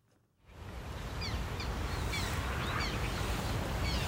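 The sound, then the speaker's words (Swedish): Repeated short, whiny, high-pitched calls of black terns at Kristianstad Vattenrike, scattered over a steady outdoor wind-like background, moderately faint, with no talking. “Om man hör det här gnälliga lätet, då är det dags att kolla uppåt. Vi skådar svarttärnor i Kristianstad vattenrike i ett reportage om en dryg kvart.”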